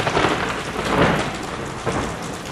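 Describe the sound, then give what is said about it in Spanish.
Heavy rain pours down steadily over a city in a dense hiss, with rolling thunder swelling underneath around the middle and again near the end. No voices. “La tormenta con rayos y truenos se abatió sobre la ciudad.”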